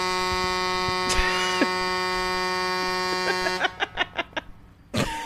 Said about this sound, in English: Classic guy crashed into a telephone pole, forehead on. That is, if someone is honking that long, you can only assume it's their unconscious forehead.